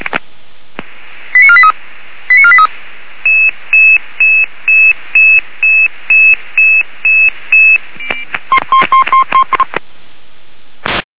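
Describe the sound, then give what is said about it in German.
Radio dispatch alerting tones for an ambulance (KTW) call-out over a narrow, hissy channel: a few initial chirps, then a steady run of about ten evenly spaced pager beeps, ending in a quick burst of rapid tone pulses. “Disponierung KTW, hier in der Ente. Alarmierung, Lammerland.”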